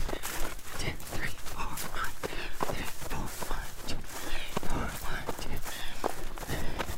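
Running footsteps pound out a steady, even rhythm of roughly two strikes per second, each footfall a dull thud with a gritty scuff over continuous low background noise.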